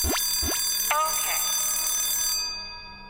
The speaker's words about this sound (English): Father says, all right, just stop that alarm.